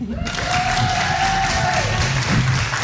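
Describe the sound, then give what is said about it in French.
Sustained applause from an audience for two members of the Prix Liberté jury, a dense, steady wash of many hands clapping at an even loudness throughout, with a faint tonal whine running through the middle. “Rien que ça, déjà, ça s'applaudit.”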